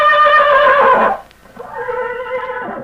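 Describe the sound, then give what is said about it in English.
Ken Maynard's horse Tarzan whinnies loudly twice in close succession, each call a bright, wavering, harmonic neigh that quavers and trails off, with a brief quiet gap between them. “Many of the stories took place in the Old West, with Ken telling how he and his horse, Tarzan, embarked on some exciting adventure.”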